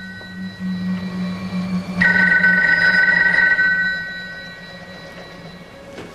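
A telephone bell rings in a single sustained burst lasting about two seconds, fairly loud, over a steady low hum that continues after the ring fades.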